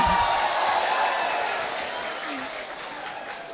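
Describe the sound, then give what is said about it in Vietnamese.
An audience at a gathering breaks into steady, dense applause, many hands clapping together at once, fairly loud, easing off slightly toward the end without any talking. “Xin quý vị cho một tràng pháo tay mà chỉ 5 tiếng thôi.”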